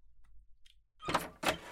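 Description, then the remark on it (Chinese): A couple of faint clicks, like a lock being worked, are followed by two louder rattling, creaking bursts as a door at the end of a passage is pulled open, with no voices. “那我开门了，”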